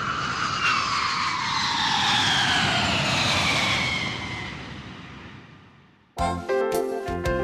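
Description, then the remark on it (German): A loud airplane roars past, its broad engine whine sliding downward in pitch from the Doppler effect as it recedes and fades, followed abruptly by a short burst of music. “Egal ob in einem Zug, Auto oder auch Flugzeug, je schneller es ist, desto grösser wird der Tonunterschied.”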